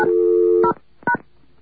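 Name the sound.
touch-tone telephone dialing tones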